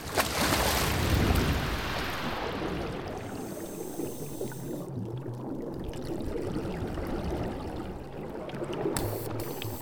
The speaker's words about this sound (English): Then they each take a long stride off the diving boat and hit the water.